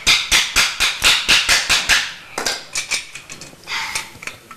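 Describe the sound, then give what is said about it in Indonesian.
A hammer strikes rapidly in a steady rhythm, about four sharp metallic taps per second, then slows into a few scattered, irregular blows. “Itu martil namanya.”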